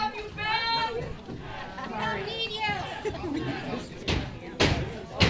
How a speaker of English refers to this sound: Outside, about 200 students and protesters listened to the meeting through speakers. Their chants and cheers could be heard inside. And when board president Dr. … called for the final vote, the crowd reacted.